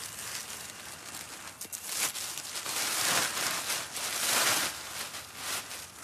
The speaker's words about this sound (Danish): Hvad er det, du gør nu? Jeg tømmer skraldespand med sin nøgle. Ved du, hvor mange skraldespanden, du når at tømme i løbet af en dag? Så 3-4 stykker.